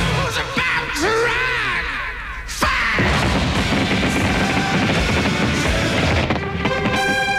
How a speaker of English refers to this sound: So from both sides of the Hudson, we hope you enjoyed tonight's pyrotechnic spectacular. And as mayor of New York City, I now say, let the fireworks begin.